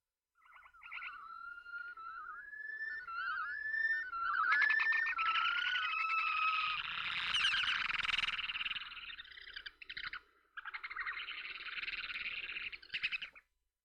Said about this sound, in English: I want to play you the sound of an amazing bird. It's called the red knot bird. I may have shared some of this with you before. Listen.